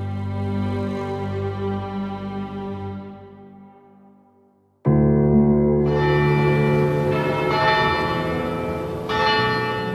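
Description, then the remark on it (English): Church bells ring out loud across Manchester on a Saturday night, four years after the Manchester Arena bombing, one long resonant peal fading away before a fresh cluster of overlapping strikes swells in, the tones layering into a rich, sustained clangour with no voices. “Bells rang out across Manchester on Saturday night, exactly 4 years after the horrific bombing at the Manchester Arena.”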